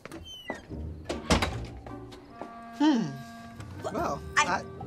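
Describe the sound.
A door swings shut with a single solid thunk, followed by a few softer knocks and rattles while muffled voices murmur and trail off in the background.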